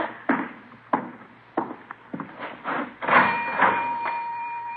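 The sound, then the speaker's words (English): A cash register opens with a run of sharp mechanical clacks and clatters, then a bright bell-like ring sustains while coins clink as a dime is put in and two nickels are taken out. “Put in a dime, taking out two nickels.”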